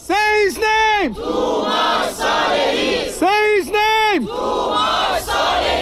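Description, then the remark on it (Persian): A large crowd of Iranians chants in unison at a loud rally in Malmö, Sweden, in support of Toomaj Salehi: two sharp drawn-out shouted syllables followed by a roaring group response, the pattern repeating twice in a steady rhythm. “این هم حمایت ایرانی‌ها از توماج در مالمو سوئد.”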